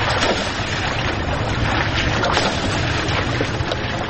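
river water

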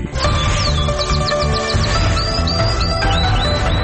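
canary chirping

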